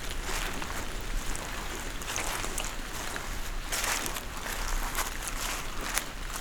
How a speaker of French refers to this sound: Vous entendez, alors que la pluie a cessé, les gouttelettes d'eau qui dégoulinent le long des troncs et des branches de la hêtraie.